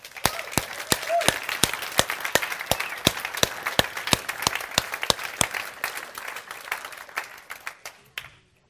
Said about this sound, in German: Wir wollen ihnen sagen, wir schätzen euch, wir sind so dankbar für alles, was ihr seid und tut. Unglaublich. Lasst uns ihnen einen richtigen Applaus geben.